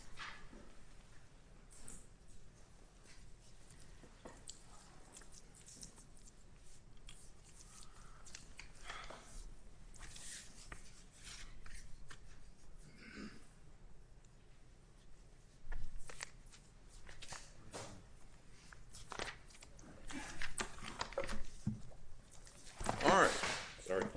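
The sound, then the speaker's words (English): Papers rustle and shuffle in irregular bursts as sheets are gathered up in a court hearing before the next case, with soft crinkles and swishes growing a bit louder near the end, faint background murmuring. “Martindale against Indiana University Health will be our next case when all the paper is picked up.”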